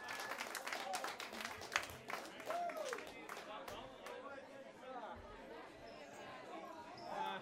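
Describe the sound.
Applause for dancers: a burst of dense, crisp clapping that thins out after a few seconds, leaving a steady murmur of crowd chatter and voices.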